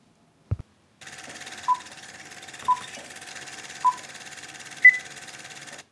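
An elderly interviewee's medical monitoring device gives short electronic beeps about once a second during an interview, ending with one higher-pitched beep, over a steady background hum after a brief thump at the start.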